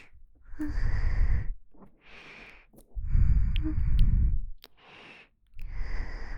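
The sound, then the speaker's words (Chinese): A sleeping man snores in a steady, regular rhythm, heavy rasping inhales alternating with softer breathy exhales over several cycles, fairly loud with no talking. “睡得好安静呢、这么有规律的打呼噜的声音”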